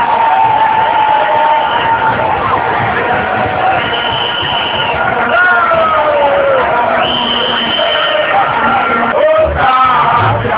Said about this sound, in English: This was the sound made by the massive crowd that gathered at the Obran Sports at the Kwame Nkrumah Circle as early as 6 a.m. All clad in black and red attire, the crowd, comprising people from all walks of life, waited patiently amid music